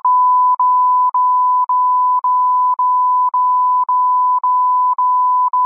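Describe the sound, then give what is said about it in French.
A loud, steady censorship bleep tone, chopped by tiny gaps into about ten rapid, evenly spaced beeps, sounding alone with no voices. “Et encore, si je me retenais pas, ça donnerait un truc avec plein de bips partout si je disais ce que je pense réellement de ces”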